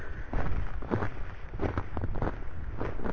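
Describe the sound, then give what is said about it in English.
Two people's boots crunch through snow as they walk back down while snow falls, in a steady walking rhythm, each step a short, gritty burst over a constant low rumble of wind or movement. “But we're walking down now, and you might be able to hear the crunch of our boots in the snow.”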